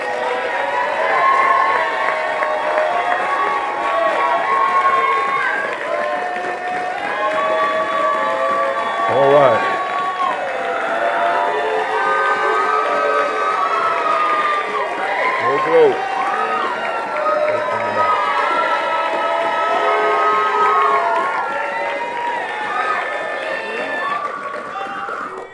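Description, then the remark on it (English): A large church audience stands and applauds and cheers steadily for about twenty-five seconds, giving a visiting preacher a Texas welcome, a dense wash of clapping mixed with shouts and whoops, with a voice briefly speaking over the crowd. “Let's all stand, give him a good old-fashioned Texas welcome, please.”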